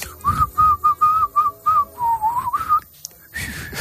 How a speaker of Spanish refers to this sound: no tienes ni puta idea de silbar, sí, ¿para qué lo intentas?